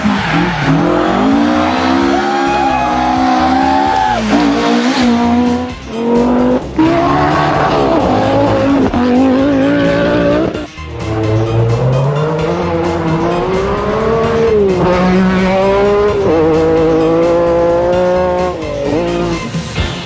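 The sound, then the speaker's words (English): A loud car engine revs and races, pitch sweeping up and down through gear changes, with tyres squealing and skidding along the way; no one speaks. “Car sounds?”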